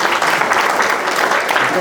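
A crowd applauds steadily, a dense, even wash of many hands clapping at once with no breaks, holding a loud, constant level throughout.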